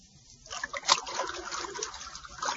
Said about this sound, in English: It's water, Bucky. And unless you tell me what I want to know, more water, much more, will continue to bore into this room until it is filled.